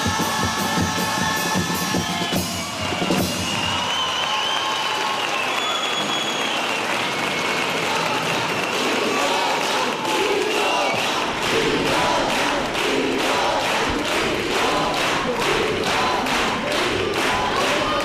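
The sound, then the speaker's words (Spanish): A loud, sustained burst of audience applause with cheering and shouts, dense clapping filling the whole stretch after the brief musical ending of a carnival chirigota's potpourri at the start. “Modelo de chirigota en su final de popurrí, recogiendo el aplauso del público en este final.”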